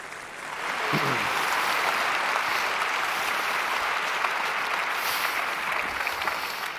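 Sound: loud applause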